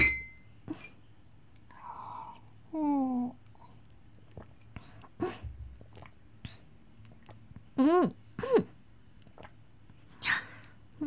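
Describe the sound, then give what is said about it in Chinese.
Quiet drinking sounds as a daughter pours wine for her father and they toast and drink together at her birthday: a few gulps and wet mouth noises, scattered small clicks and taps, and short voiced throat sounds between sips, with no talking. “那我先帮爸爸倒上酒，这个酒听说很好喝呢，今天我陪爸爸一起喝吧，干杯。”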